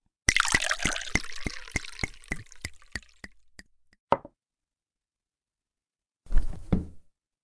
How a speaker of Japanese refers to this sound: コーヒーもついであげるから。